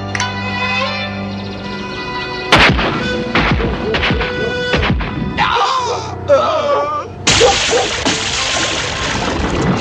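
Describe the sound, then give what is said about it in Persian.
A sharp, loud gunshot crack splits a busy, noisy scene at a hunting ground as several shooters fire at once at a large flock of birds, followed by scattered smaller bangs and a sudden burst of hissing, clattering commotion near the end. “فوج بزرگی از پرندگان به این سو می آیند. فرصت می دهیم جملگی همزمان شلیک کنید.”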